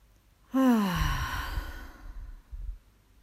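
A single deep breath released as a long, audible sigh during a relaxation exercise, voiced at first and dropping in pitch before trailing off into soft breathy air.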